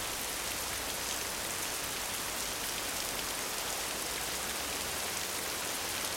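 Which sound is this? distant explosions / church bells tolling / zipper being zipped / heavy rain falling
heavy rain falling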